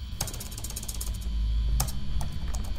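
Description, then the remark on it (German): Rapid typing by a man entering commands on a laptop keyboard in a darkened room in Berlin-Adlershof: a quick, irregular patter of sharp clicks, densest at first, then scattered taps over a steady low hum, with no voices. “Fieberhaft fliegen die Finger über die Tasten. Hochkonzentriert tippt er Befehle ein.”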